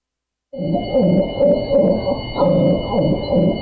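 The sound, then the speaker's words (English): A devocalized female dog, her vocal cords cut, gives a string of hoarse, muffled, rasping barks, about half a second apart and fairly loud, each one breathy and strangled rather than a clear, ringing bark. “That's the sound of a dog whose vocal cords were cut just to stifle her voice.”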